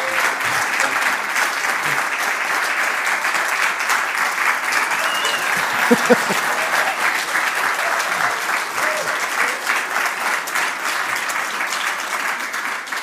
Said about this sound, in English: You get an applause.